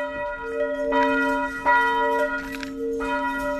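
church bell ringing

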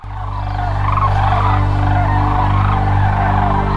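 sandhill cranes calling

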